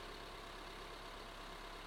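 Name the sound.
car engine idling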